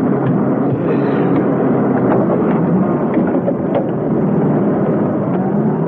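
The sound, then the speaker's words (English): Loud, steady engines of a fleet of vans rumble for several seconds, a dense low droning with faint rattles, as the engines start up and the vans pull away. No one speaks. “They boarded them, the engines started up, and the vans pulled off.”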